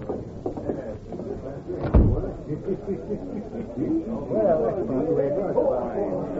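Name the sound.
door being shut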